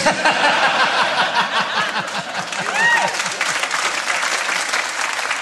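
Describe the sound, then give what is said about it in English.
Scattered applause from an audience, thinner than a full ovation, with some chuckles and murmuring voices mixed in throughout. “You'll notice that only half of them were clapping.”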